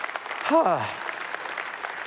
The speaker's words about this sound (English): Our church is built on Jesus. And that's what's great. Yeah, y'all should applaud for that.